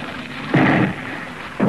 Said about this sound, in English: A broadside, sir, from the Vizcaya. Well, they haven't hit us yet.